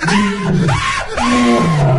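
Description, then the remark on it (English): A human voice imitates a tiger's roar as the tiger takes down an Ecuadorian competitor: a loud, drawn-out growling howl that rises and falls in pitch twice over two seconds, alone. “He's just been taken down by the tiger.”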